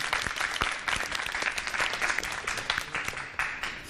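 An audience claps steadily for the full few seconds, a dense, even patter of many hands with no voices standing out.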